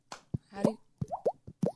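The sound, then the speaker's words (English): A person slaps their cheek to imitate water drops: about six hollow, bloopy plops in an uneven rhythm, several with a quick upward-sliding pitch, clear and fairly loud with no talking. “It sounds just like a water drop.”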